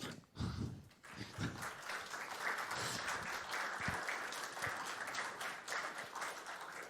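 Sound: audience applause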